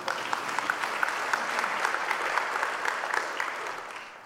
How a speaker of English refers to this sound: You may clap.